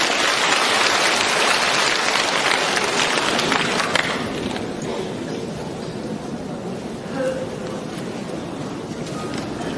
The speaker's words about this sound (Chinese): 请大家掌声欢迎